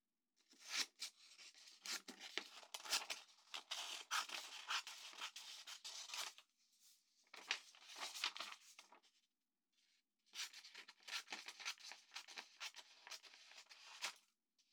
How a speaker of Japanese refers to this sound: チョキチョキ、いい音だね。折り紙なんていつぶりだろう。